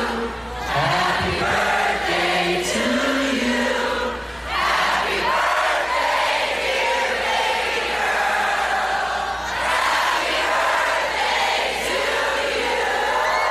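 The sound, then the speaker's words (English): An arena crowd at Wisconsin's Country USA Festival, led by Keith Urban, sings Happy Birthday for Nicole Kidman without instruments, a loud, washy roar of many voices holding sustained notes, with a couple of brief dips between phrases. “During his Tuesday night appearance at Wisconsin's Country USA Festival, the 50-year-old Urban led the crowd in an a cappella rendition of Happy Birthday for the 51-year-old Kidman.”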